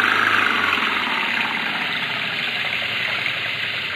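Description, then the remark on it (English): A car engine is revved while the car is stuck in mud, a dense, unbroken roaring drone that eases only slightly after the first second, with no voices over it. “Give it the gun”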